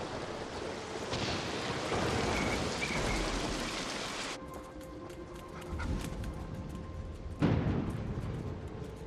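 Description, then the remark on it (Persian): Steady heavy rain from a storm pours down in a dense, hissing wash, easing to a lighter patter midway with a low rumble underneath, then swelling again near the end. No voices. “پناه میگیریم و منتظر میشیم طوفان بگذره.”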